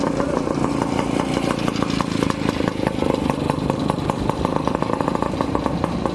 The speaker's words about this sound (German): Über den schmalen Weg im Pilsener Stadtpark nähern sich zwei Motorräder, Oldtimer aus Kriegszeiten.